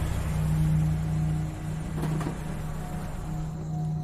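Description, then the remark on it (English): A car engine idles and hums steadily nearby, with a low droning tone and slight shifts in revving as the car slowly parallel parks in a motel parking lot; no one speaks. “Trudy parallel parks nearby.”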